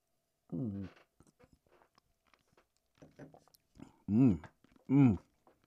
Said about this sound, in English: And then, as you're drinking the Malort, you get all these balls, and you're trying to pop as many as you can to save yourself. And they don't pop fast enough to save you.